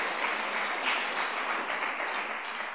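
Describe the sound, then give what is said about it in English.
A crowd claps steadily, a dense wash of many hands at even loudness for a few seconds, with no one speaking over it. “Go ahead and clap for that one.”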